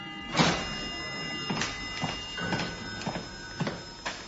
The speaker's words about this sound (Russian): Вместо этого в доме раздался знакомый звук. Но сегодня он заставил ее похолодеть и схватиться за сердце. Звук открываемой входной двери.